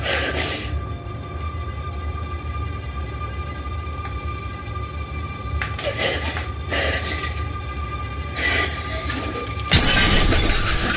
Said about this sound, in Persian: آینه رو با شیشه عطر شکست.